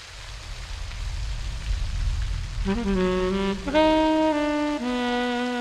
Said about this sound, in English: Rain pours onto a quiet city street.